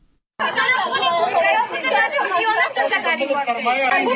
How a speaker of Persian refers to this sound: صدای گریه و ناله شماره از دختران محصل انستیتوت های طبی در افغانستان است که امروز پشت درهای بسته این انستیتوت ها قرار گرفتند.